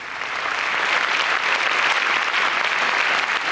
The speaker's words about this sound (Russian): И вдруг в этой тишине раздались аплодисменты.